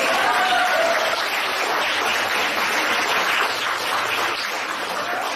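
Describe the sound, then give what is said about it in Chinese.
An audience applauds steadily for about five seconds, a dense wash of many hands clapping at an even, fairly loud level, with a faint voice briefly underneath at the start. “对鼓掌啊！”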